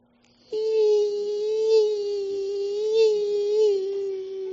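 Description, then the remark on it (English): A voice imitates a mosquito's whine: a steady, nasal, buzzing hum that starts after a brief pause and holds at one fairly high pitch for about four seconds, wavering slightly. “Mosquito, right?”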